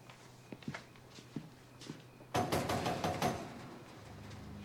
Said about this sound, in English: Her visitor has been banging on the screen, which is still closed.